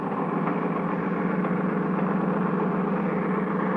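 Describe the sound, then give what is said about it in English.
A boat engine, just turned over, runs at a steady idle, a continuous mid-pitched rumble with a faint rhythmic chug, fairly loud with no talking over it. “Turn over the engine.”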